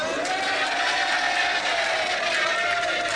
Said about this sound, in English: The cheers have it! And I'll meet all the booers afterwards outside.